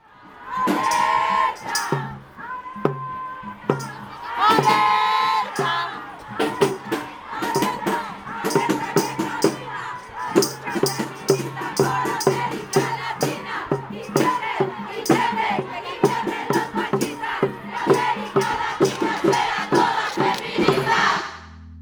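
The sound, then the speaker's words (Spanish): A large protest march crowd shouts and chants together in rhythmic bursts, voices loud, with rising and falling cries filling the space continuously. “pero ese es todo el universo que te envuelve cuando vas a no solo marchar, también escuchar, acompañar y a gritar.”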